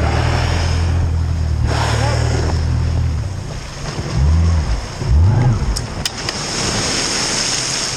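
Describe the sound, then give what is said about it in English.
A broad, steady rush of churning, rising water by a boat out on the water during whale tagging, with a low motor drone and wind buffeting throughout, swelling briefly louder near the middle. “So we heard there, I heard, you know, the sort of rush of rising water and, of course, the whoosh of the whale's blowhole.”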